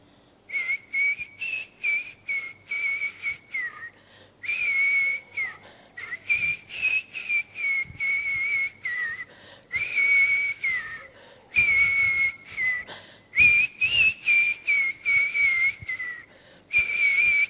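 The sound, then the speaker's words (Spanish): A woman whistles a slow melody alone while washing dishes in a kitchen, in short wavering phrases separated by brief pauses for breath, the clear high tone holding fairly steady throughout. “¿Cómo puede tener ganas de silbar a alguien a quien le arrebataron los sueños?”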